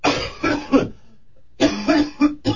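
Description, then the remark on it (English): A short burst of deliberate, harsh coughing: two clusters of three or four hacking coughs separated by a brief pause, loud with no talking. “Just go ahead and get a good cough out.”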